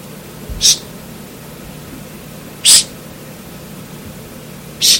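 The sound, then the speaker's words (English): A person, illustrating the words of Zechariah in a sermon, makes three short, sharp hissing sounds, evenly spaced about two seconds apart, fairly loud against a quiet background with no talking. “And at the appointed time of love, He says, I will hiss for them. I'll hiss for them.”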